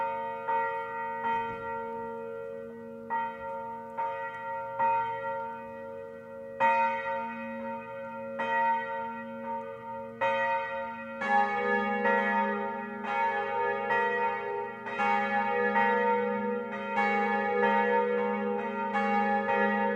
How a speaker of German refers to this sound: in der Verbannung auf St. Helena kein Angelusläuten mehr hören zu können